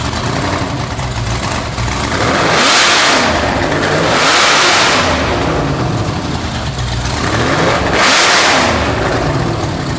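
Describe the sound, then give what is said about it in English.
Larry Miller's car engine, fired up indoors, rumbles loudly and is revved hard three times, each rev swelling into a roaring burst before settling back to a throaty idle. No one speaks. “But we'll play the clip of Larry firing it up.”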